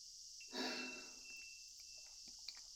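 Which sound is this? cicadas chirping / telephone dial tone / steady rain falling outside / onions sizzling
cicadas chirping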